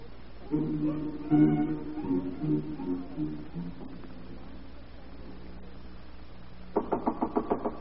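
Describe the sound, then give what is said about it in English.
A quick series of about six firm knocks on a door by a federal agent near the end, following an earlier stretch of low, tonal murmuring sound and a quiet pause. “Federal agent. Open the door.”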